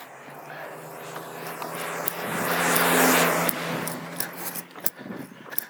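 A car approaches along a quiet residential street, its broad tire and engine rumble swelling to a peak mid-clip before fading as it drives past, with a few faint clicks near the end.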